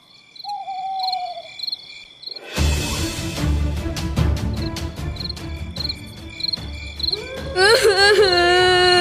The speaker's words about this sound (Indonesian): Suara binatang malam di hutan sangat menyeramkan. Terdengar suara burung kolik, suara burung hantu.